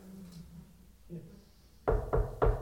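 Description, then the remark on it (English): Three firm knocks on a door in quick, even succession, following a quiet stretch with a faint low murmur in the background. “Imagine getting that knock at your door.”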